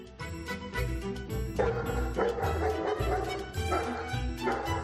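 A medical alert assistance dog barks and yips repeatedly in quick bursts, fairly loud, with a few whimpering notes and a faint jingling in the background; no one speaks.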